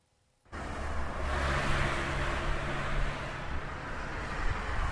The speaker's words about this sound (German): Dauerlärm macht krank, das ist lange bekannt. Herzinfarkte und Schlaganfälle sind dort häufiger, wo der Verkehr besonders laut ist.